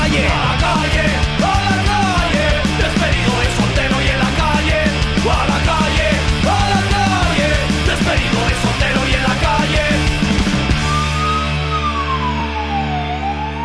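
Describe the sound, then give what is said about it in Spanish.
Loud, continuous yelling and screaming from a boss fills most of the stretch, harsh. It ends with a steady tone that slides downward like a siren. “A tu lado gritan a la calle, no te emociones, son los gritos de tu jefe.”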